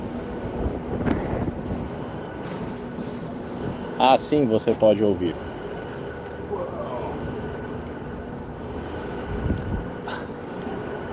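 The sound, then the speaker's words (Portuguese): Fall-protection lifeline cables without retention clips bang against the metal walls inside a wind turbine tower during construction, in a short cluster of clanks with an eerie, wavering metallic hum, over constant wind rumble, while a person speaks briefly. “Por exemplo, sem clipes de retenção para mantê-los no lugar, o sistema de proteção contra quedas dos trabalhadores ou cabos de linha de vida batiam contra as paredes de metal e criavam um zumbido realmente assustador.”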